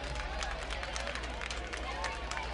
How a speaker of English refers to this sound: Bit of a Bronx cheer here for the home crowd as Bautista finally back somewhere around the plate, back in the strike zone.